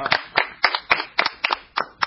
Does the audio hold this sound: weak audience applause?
yes